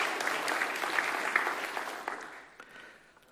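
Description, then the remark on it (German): An audience at a church service applauds the people who bring the service to visitors in their native language, with dense, crackling clapping that holds steady and then gradually thins out and fades toward the end, with no voices over it. “Und ich finde, das ist ein super Applaus wert, dass wir diesen Dienst haben für die, die das tun.”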